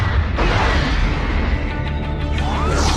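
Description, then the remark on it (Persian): Torpedoes launch with a loud, sustained underwater rush: a deep rumble and churning whoosh fill the whole stretch, with a brief surge early on and a rising hiss near the end. “شلیک کن اژدرها رو، شلیک کن.”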